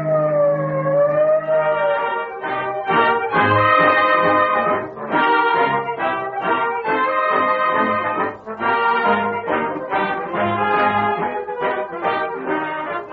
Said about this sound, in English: Whenever you hear the shriek of a siren, when police cars whiz past you with motors racing at top speed